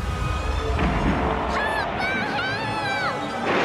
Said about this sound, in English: Out on the ocean's rough waves, he sees the water morph into the giant shape of the sea god Neptune. Neptune strikes the ship with his watery claw. Another wave swells up into the shape of Neptune and crashes down on the seemingly tiny ship.